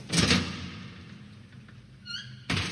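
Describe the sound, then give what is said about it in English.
A heavy morgue door opens: a dull thunk of the latch, a brief creaking squeal from the hinges, then another solid bump as it swings wide. No one speaks. “The morgue door swung open.”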